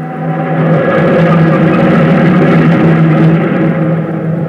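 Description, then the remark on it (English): A loud, steady drone of heavy truck engines rumbles continuously from a caravan of trucks carrying meager equipment for settlers heading into the Negev desert, with a constant low hum and no voices. “In a caravan of trucks, carrying the most meager equipment, ordinary people set out to bring life to the dead sands.”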